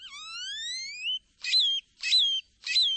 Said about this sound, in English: or jumbled and metallic, like this great-tailed grackle's.